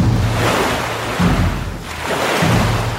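Sea waves break steadily on a beach, a loud, continuous wash of surf that surges and briefly eases before rolling in again. No voices are heard.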